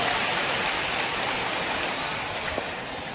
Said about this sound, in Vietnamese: Wow, cho một tràng pháo tay chúc mừng hạnh phúc của hai mẹ con.